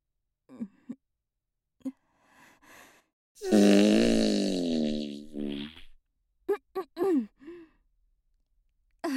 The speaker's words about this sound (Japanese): ごめんね、おばさんおなら出しちゃった。ほら、匂いパタパタ。